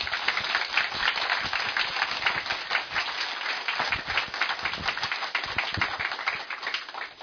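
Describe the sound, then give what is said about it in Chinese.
Steady, enthusiastic applause from a crowd welcoming museum director Zheng Bangding, head of Taiwanese literature, dense overlapping hand claps sustained at an even loudness for several seconds with no voices over it. “所以咱接续用热烈的掌声来欢迎咱台湾文学的总干事、运动家郑邦鼎馆长。”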